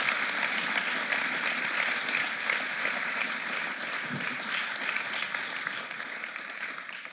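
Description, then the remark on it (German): A church audience claps steadily in sustained applause for two interview guests during a sermon, a dense wash of many hands that stays loud throughout and eases off slightly toward the end, with no voices standing out. “Euch beiden ein riesen Dankeschön, euch einen riesen Applaus, dass ihr dabei wart.”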